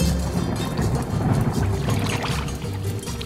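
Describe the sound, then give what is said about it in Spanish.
Rainwater pours steadily into a container as someone collects it, a continuous rushing and splashing with a heavy low rumble that holds an even level throughout, with no voices. “Recogiendo agua de lluvia, ¿no ve?”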